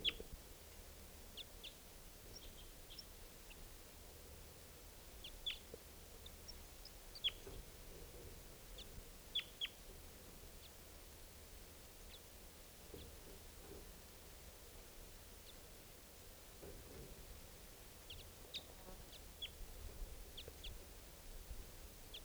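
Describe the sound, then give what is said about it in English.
Scattered short, high chirps from wild birds sound over a steady low hiss, coming in brief irregular bursts throughout with no one talking. “Wild birds at I don't know which one.”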